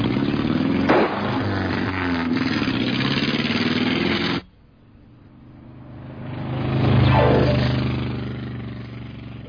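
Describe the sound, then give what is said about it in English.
A loud, rough car engine roars steadily, cuts off abruptly, then swells again as the vehicle drives past with a rising, growling drone before fading slightly. “One day, a very noisy animal rushed past where Key was sleeping.”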